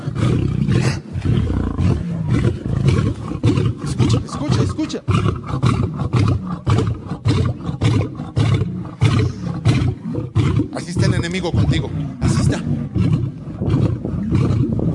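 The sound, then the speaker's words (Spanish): A lion roars repeatedly in deep, rumbling bursts, played from a video, filling the whole recording, loud, while a man speaks briefly over it. “Eso es el rugir.”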